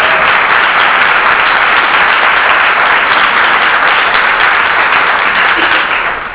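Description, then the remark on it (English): A crowd breaks into a sustained round of applause for a woman, a dense, steady wash of many hands clapping at full volume for several seconds before it begins to taper off at the end. “I think we all owe her a round of applause.”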